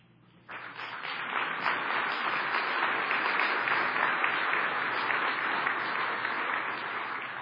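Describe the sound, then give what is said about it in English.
An audience breaks into applause after a brief quiet moment, and the dense, steady clapping carries on at an even, fairly loud level to the end, with no one speaking over it. “And I think that's worth applause.”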